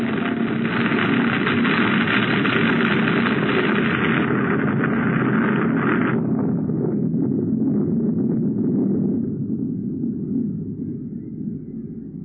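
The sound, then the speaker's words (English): A heavy, roaring avalanche that buries a car, loud and continuous, with a harsh rushing hiss that cuts off after about six seconds, leaving a deep low rumble that slowly subsides. “Get out of the car, quick! An avalanche!”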